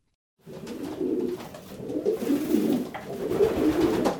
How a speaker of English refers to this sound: I'm here in a pigeon loft in Fall River.